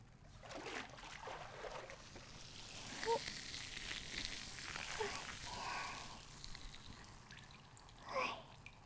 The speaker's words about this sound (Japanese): シュワシュワ全部流しちゃうね。